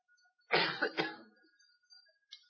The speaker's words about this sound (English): That was my third cough.